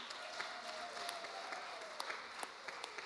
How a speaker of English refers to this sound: So let's start with... this is a good way to start. Yes, let's start. Can we give them a round of applause for their hard work?